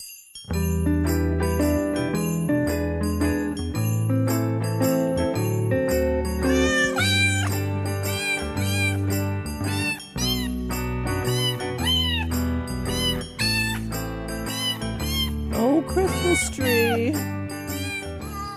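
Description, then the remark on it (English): Several cat meows, drawn-out and wavering in pitch, ring out loud over a steady musical backing with a deep bass line, bunching together toward the end. “It's meow, meow, meow, meow, meow, meow, meow, meow, meow, meow, meow, meow, meow, meow. And that's it in cat language.”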